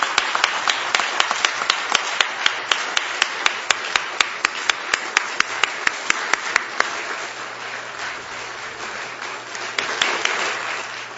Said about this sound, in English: for our men and women serving in the military, and especially those individuals in blue that are in a new mission for all the rest of our lives and keeping us free, let's give them a round of applause for the B-1B and their service.